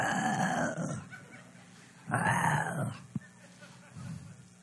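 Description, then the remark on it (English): A crowd of people practices growling together at a speaker's prompt, in two long, rumbling bursts separated by a short pause, loud, with a sharp tap and murmuring between them. “I hope this morning before you leave, you'll all be growling. Let's practice.”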